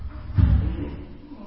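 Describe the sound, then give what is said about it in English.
A door swings open with a single dull, low thump, followed by a faint rumble that quickly fades into quiet room tone. “Just open up that door, let me have a look in there.”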